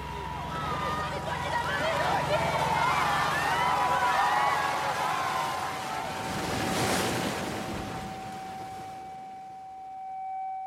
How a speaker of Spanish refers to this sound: Mucho mar, mucha agua, mucha tormenta, mucho mayday, mayday.